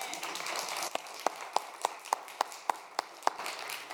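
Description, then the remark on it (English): A crowd applauds in a soft, steady wash after a scripture reading, with one pair of hands clapping about nine sharp, evenly spaced beats over it. “Y'all give her a round of applause.”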